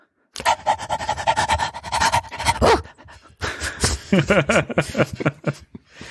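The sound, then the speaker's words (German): A dog pants loudly and rapidly for a few seconds, then after a brief pause lets out a string of short, voiced yelps or barks mixed with more panting. “Ja, wir sind auf den Hund gekommen.”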